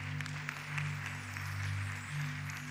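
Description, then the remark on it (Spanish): A crowd applauds for someone who answered a question about the disciples with Judas Iscariot: a steady patter of clapping for about three seconds, fairly soft, over a constant low hum, with no one speaking. “Denle un aplauso.”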